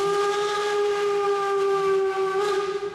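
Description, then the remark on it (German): A train whistle sounds one long, steady, loud chord for nearly three seconds over the rumble of a train, tapering off at the end. “Wie, du weißt nicht, von welchem Zug ich rede. Natürlich von diesem Zug hier.”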